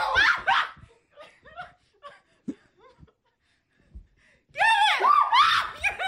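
A man screams in loud, strained bursts at the start and again near the end, with quieter murmured voices and laughter-like sounds in the lull between.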